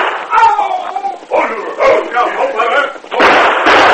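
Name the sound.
gunfire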